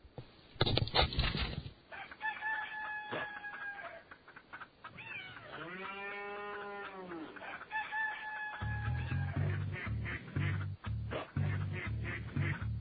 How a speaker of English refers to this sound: And on that farm we had some ducks.